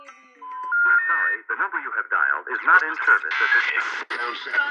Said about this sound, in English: This is actually the music I heard over the phone, and the psychic character seemed to be a fraud, like she was played as a joke.